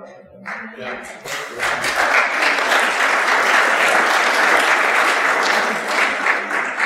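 An audience breaks into sustained applause, many hands clapping together in a loud, dense wash that swells after a quiet start and holds steady.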